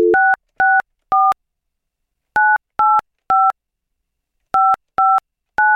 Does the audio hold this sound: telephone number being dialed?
yes